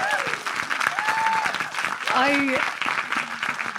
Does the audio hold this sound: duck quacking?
no